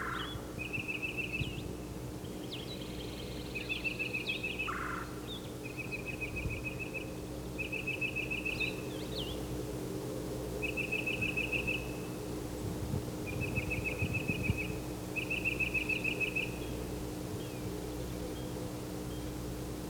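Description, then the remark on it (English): A titmouse calls while pumping its tail and another titmouse answers: about seven short, high, rapid trilled phrases spaced a second or two apart, over a steady low hum. No one speaks. “He's getting an answer. He's pumping his tail while he calls.”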